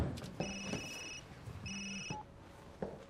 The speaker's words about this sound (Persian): اگه منو ببخشین باید به گوشیم جواب بدم.